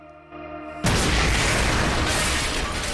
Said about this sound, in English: An explosion rips through the front of the house.